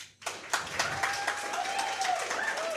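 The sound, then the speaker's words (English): An audience claps to vote for Ash as the Nintendo character who would make the best hero of Gotham, breaking into clapping after a brief pause, a dense, steady patter of many hands at a fairly strong level, with a few faint voices cheering over it. “So if you clap if you think that Ash would make the best hero of Gotham...”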